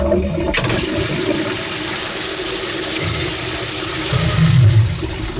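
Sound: toilet flushing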